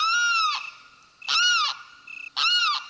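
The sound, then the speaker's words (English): Three loud, harsh wailing calls from a male limpkin, each a drawn-out nasal cry with a falling end, repeated about once a second against a quiet background, before dawn on a spring day in a cypress swamp in Florida. “A male limpkin has awakened.”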